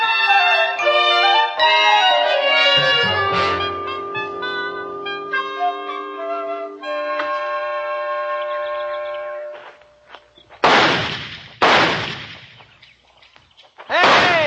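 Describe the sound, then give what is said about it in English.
Three loud, sharp shots from a new target pistol ring out one after another, the third after a short pause. Before them comes a long stretch of sustained, chiming tonal music. “Let's try them out tomorrow. See if you can teach me to hit a barn door or something.”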